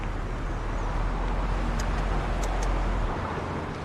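car engine running

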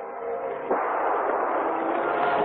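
gunfire

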